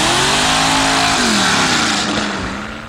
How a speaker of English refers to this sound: First person gets in, nothing happens. Second person, third person. Fourth guy gets in, and the car turns on.